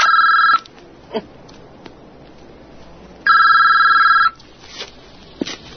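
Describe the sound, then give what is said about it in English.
A mobile phone rings in two electronic bursts, a steady high-pitched warbling tone lasting about half a second and then about a second, with a few soft clicks and rustles between them. “I really should take this. So could you just pull it out and press send?”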